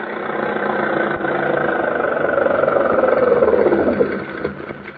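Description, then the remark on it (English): A car engine runs steadily throughout, a continuous, fairly loud mechanical drone with a slight swell in the middle and no voices over it. “Stop that car!”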